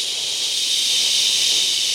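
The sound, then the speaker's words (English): A voice imitates running shower water with a steady, breathy hissing 'shhh' that holds at an even, fairly loud level for about two seconds without a break. “I'll make the water noise.”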